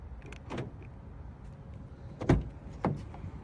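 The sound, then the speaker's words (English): Car door locks unlocking with a key fob: a few quick mechanical clunks, the loudest pair close together near the end, over a faint background hum with no talking. “So now I'm gonna unlock the car.”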